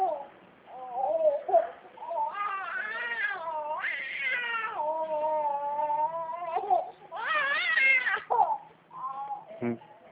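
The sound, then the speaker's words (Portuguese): A baby fusses for attention, mixing babbling sounds with long, wavering cries that rise and fall in pitch, continuing almost without pause for about ten seconds. “O bebê tá querendo atenção, né?”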